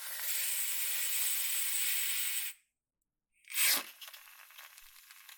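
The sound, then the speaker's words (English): A silver whipped cream can taken from a refrigerator sprays in a long, steady hiss for a couple of seconds, goes silent, then gives a sharp burst followed by a crackly, sputtering spray. “This is whipped cream.”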